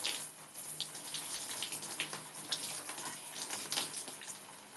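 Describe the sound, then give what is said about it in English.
Shower water runs in a steady hiss, broken by small splashes and spatters as someone washes their body with a loofah beneath the spray, conditioner left sitting in their hair. No one speaks. “Okay, I have conditioner in my hair. And I'll just let that like sit for a little bit. I guess I'm just washing the body.”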